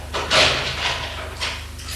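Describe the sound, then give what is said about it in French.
An apartment door on the second floor of a building swings open, with a few brief scraping and clunking bursts over about two seconds and a low steady hum underneath. No one speaks. “Ouvre la porte de son appartement.”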